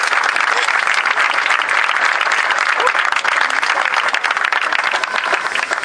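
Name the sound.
audience applause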